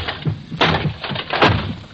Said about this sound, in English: Smashing that chair won't help, sir. It will, I tell you.